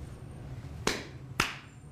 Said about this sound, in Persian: اون دست زدنه. کف. کف دیگه چیه؟ کف اینه.